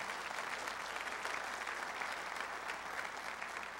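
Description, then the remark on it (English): An audience gives God a hand clap for the good news during a sermon, applauding steadily in a dense wash of many hands clapping at an even level throughout, with no voices rising above it. “Come on, let's give God a hand clap for that's good news.”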